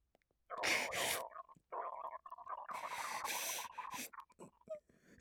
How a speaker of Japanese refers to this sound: 急にお腹が。一回落ち着いてから。さらにおならが。